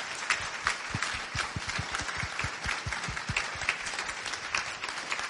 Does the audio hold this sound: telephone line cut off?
no